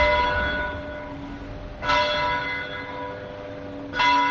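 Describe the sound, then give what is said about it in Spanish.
Church bells from the town square clock tower in Morata ring out, each strike landing about two seconds apart and leaving a rich, humming tone that lingers and overlaps the next, with no voices. “Eso sí, las campanas siguen sonando igual.”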